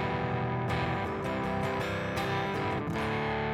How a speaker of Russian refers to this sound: Такое ощущение, что гитара как пропадает, что шнур где-то отходит. И поэтому фуз чуть-чуть поднимаем выше нуля.